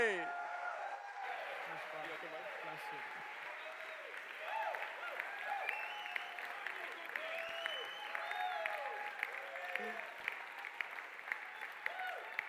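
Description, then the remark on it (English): A large crowd cheers and applauds steadily for Pastor Sean Malarkey, with dense clapping and a chorus of overlapping shouts and whoops rising and falling over the full length. “roar and shout for Pastor Sean Malarkey.”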